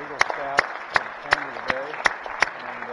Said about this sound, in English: They're Eagle Scouts to the chamber today. We're proud of these young guys, and if you would give them a round of applause, I'd appreciate it. Let's welcome the guests of the Senator from Newton to the Missouri Senate.